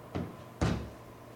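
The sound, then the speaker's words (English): A door is handled: a softer clunk followed by a louder, fuller thump as it swings open, with no voices present. “Open the door, throw it over the top.”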